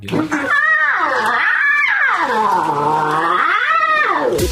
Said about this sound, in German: Habt ihr das schon rausbekommen? So klingen Löwenbabys. Habe ich vorher noch nie gehört. Ich dachte, das klingt alles ein bisschen kuscheliger, aber die können auch, wenn sie wollen, ne? Und ab heute könnt ihr 3 Löwenbabys bestaunen.